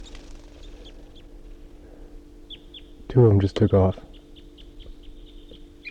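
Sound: wild birds calling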